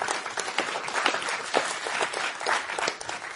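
A room full of people applauds a speaker who is about to give a talk, a steady, dense wash of overlapping claps at moderate volume that holds evenly throughout without pause.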